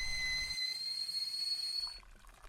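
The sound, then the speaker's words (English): A kettle whistles steadily as water boils, a sustained shrill tone with a steamy hiss underneath, fading out near the end with a low rumble. No one speaks. “I think we should go and have a good water and get the kettle on.”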